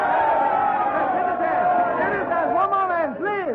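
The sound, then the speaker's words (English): A large crowd of citizens of Quito cheers and shouts together for their new president, many overlapping voices rising and falling in a loud, continuous roar that stays sustained throughout. “A cheer for Carrera, new president!”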